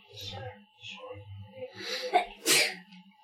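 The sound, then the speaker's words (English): A person sneezes once, close and loud, a sharp breathy burst at the end of a short inhale, with muffled voices murmuring in the background. “Bless you.”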